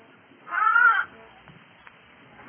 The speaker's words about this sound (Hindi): जब भेड़ ने गड़रिये को देखा तो बड़ी प्रसन्न हुई। उसने एक बार फिर आवाज की।